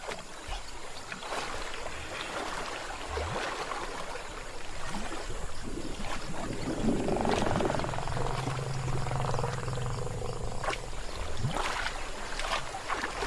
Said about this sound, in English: To get what they seek, the prospecting elephants must first blow away the covering layer of silt.